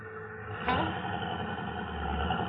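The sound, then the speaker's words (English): A steady, low car engine rumbles in traffic, with a busy traffic hum around it and a brief sharp sound partway through; no one speaks. “I told you, lady, the traffic is lousing us up.”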